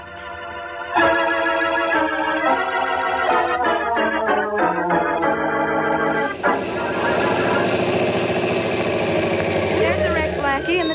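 A car engine starts up and revs through several pitch steps, then settles into a steady, loud, rumbling run for the remaining seconds.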